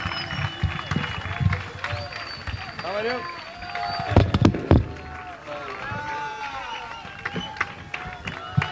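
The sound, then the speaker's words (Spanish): A crowd applauds steadily with scattered cheers and shrill whistles, a few sharp claps standing out midway; voices call out through the noise. “Vienen muchos artistas, pero que siga el aplauso por todos nosotros, por ustedes que estamos acá y por toda esta gente que hace posible esto.”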